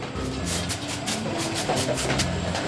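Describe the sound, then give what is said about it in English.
Rapid, irregular bursts of hissing air puffs from an optical plastic sorter from the Netherlands that scans passing materials and hits clear plastics, such as water bottles, with air to separate plastics by color: a dozen or so short sharp blasts over a steady, loud rumble of industrial machinery, with no talking. “Right here, the scanner is looking at the materials as they come by, and when it sees a clear plastic, like a clear plastic water bottle, it hits it with a puff of air, and you can hear it.”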